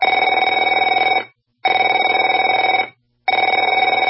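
A telephone rings in three loud bursts of roughly 1.3 seconds each, separated by short silent gaps, with a bright, buzzy bell tone and no voices.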